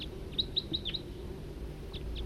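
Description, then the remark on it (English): A wild bird chirps in the distance, a quick run of five high, thin tweets followed by a couple of fainter notes over a low steady background rumble. “Wild bird”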